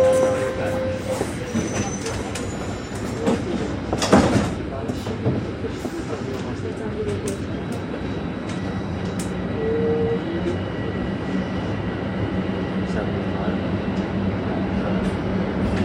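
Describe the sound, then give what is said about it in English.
A subway train rumbles steadily between stations toward Lawrence Station, a loud continuous roar with rattling, brief metallic squeals and one sharp clunk near the start, recorded from inside the car. “Next station is Lawrence, Lawrence Station.”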